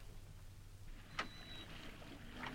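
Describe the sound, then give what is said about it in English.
Oars splash and dip into water as a small boat is rowed toward a bigger boat, with a sharp stroke near the middle and a softer one at the end over a steady low wash. “I say, well, I've been rowing for over an hour now, and we still haven't reached that big boat.”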